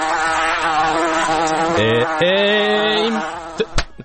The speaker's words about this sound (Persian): بله این مگس خیلی داشت اذیت میکرد.